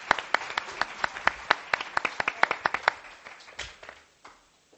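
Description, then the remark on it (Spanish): A short burst of applause from a few people, with distinct, sharp hand claps in a quick irregular rhythm that thin out and fade after about three seconds. “Pues oh, un aplauso para”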